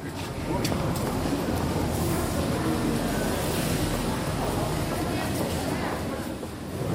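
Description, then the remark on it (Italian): Metro station ambience as people re-enter the metro station: a steady, fairly loud wash of low rumble and hiss fills the space throughout, with an indistinct murmur of voices blended into the background. “Ecco, rientriamo nella stazione della metropolitana e sì, sempre Bauminskaya,”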